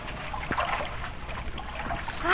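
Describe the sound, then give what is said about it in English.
Water sloshes and trickles steadily inside a ship's hold flooded with two feet of water, a continuous churning rush with faint creaks, swelling louder toward the end as more water seems to pour in. “Great Scott, there's 2 feet of water in the hold, and we're shipping more.”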